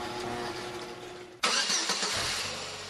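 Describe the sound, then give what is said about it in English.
A car engine idles low and steady, then abruptly roars louder with a broad rushing rev as the car starts up and pulls away, at 7:30 in the morning in a suburban neighborhood in Huntley, taking people to work or school. No one speaks. “Cars are whisking people away to work and school.”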